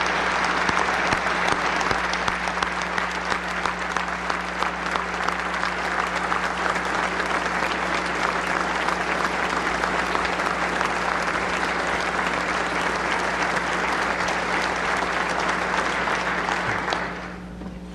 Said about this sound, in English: Governor Martin, who I think is in the audience, please give a round of applause for Governor Martin.